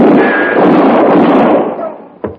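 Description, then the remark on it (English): A loud gunshot, fired into a man's hand, bursts out and rumbles away in a long, fading echo, then a second short, sharp crack snaps near the end. “Shoot a hole in my hand.”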